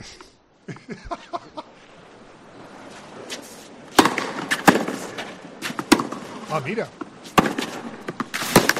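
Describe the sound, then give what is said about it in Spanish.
Sharp, loud thwacks of a tennis ball being struck back and forth, several hits at an uneven rally pace over a steady background murmur, with a brief spoken remark early on; the point is won with a forehand by Mackenzie McDonald. “Golpes.”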